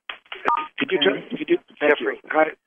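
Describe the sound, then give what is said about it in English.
Telephone keypad dialing tones on a Monday night conference call, a string of short, steady electronic beeps at mid pitch, sounding over a voice talking on a narrow, phone-quality line. “Can you turn those tones off”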